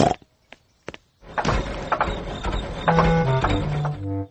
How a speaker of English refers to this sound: Oh dear, Daddy Pig. Your car does not sound very well. Can you fix it, please, Grandad Dog?